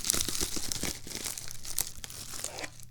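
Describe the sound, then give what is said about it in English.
A plastic bubble-wrap-type envelope holding guitar hardware, on a living room floor, crinkles and rustles in a steady, irregular stream of crisp crackles and pops for a few seconds, fairly loud, with no voices. “And I've got all the hardware for it right here in this bag.”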